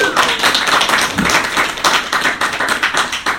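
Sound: applause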